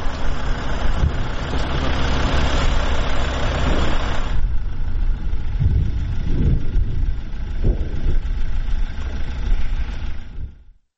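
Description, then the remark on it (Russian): An engine runs with a steady, rumbling drone; a few seconds in the throttle eases off and the sound settles into a lower, softer idle before cutting out at the end. No voices. “Тут можна дати їй трошки менше газу.”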